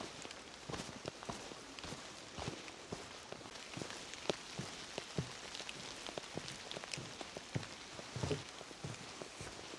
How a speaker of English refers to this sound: It's raining a lot more than it was forecast to right now. Yeah, a little bit soggy.